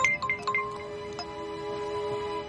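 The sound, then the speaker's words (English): A man's mobile phone rings after a woman taps her own phone, with a quick run of bright electronic chime notes at the start, then a steady ringing tone that carries on at moderate volume with no talking. “She taps her phone. His phone rings.”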